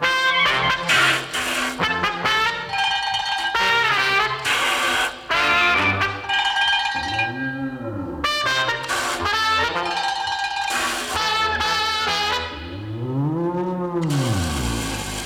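A clanging bell for round two of a bullfight rings repeatedly in a loud, busy burst, joined by several drawn-out, swooping moo-like calls from a cow; no one speaks.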